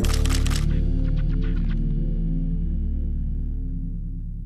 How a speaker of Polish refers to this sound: Migawka.